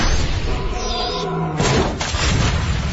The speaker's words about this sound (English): The rhinoceros bashes down the door. Not high security enough for me. Yes, rhino attack.